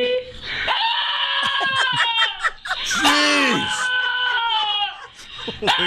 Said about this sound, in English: Holy God. Man, that dog hates his owner. That is unbelievable. Is that some kind of biological anomaly? Like, right. Is there something? Sounds like Kinnison. Is there something wrong with the dog's barking? It sounds that like Kinnison. Is awful.